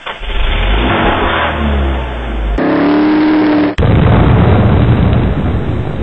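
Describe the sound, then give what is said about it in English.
A car engine roars and revs, its pitch climbing in a brief rising whine before cutting off abruptly into a loud, harsh burst of noise, with no one speaking. “The wacky game where you drive your car as slow as possible over a bridge in Minneapolis, Minnesota.”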